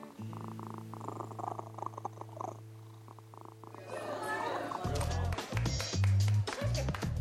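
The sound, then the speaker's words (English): A male pet cat purrs steadily, a low continuous rumble, then shifts into louder rhythmic bursts of purring with some rustling movement toward the end. “The purring alone is what soothes me the most.”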